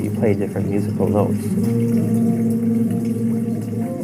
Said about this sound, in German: Man nimmt den Finger und legt ihn auf eine der Wasserdüsen. Durch das Blockieren und Nicht-Blockieren kann man unterschiedliche Töne erzeugen.